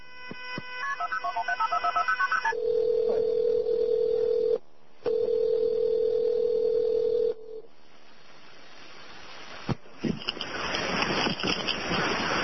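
A quick run of keypad beeps dials a number, then two long, steady ringback tones sound over the line before a click and a burst of line hiss as the call connects.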